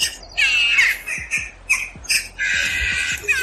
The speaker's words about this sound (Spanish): Las águilas Harris ya vuelan por la localidad vigilando que ninguna grajilla anide y moleste a los vecinos con este insistente sonido.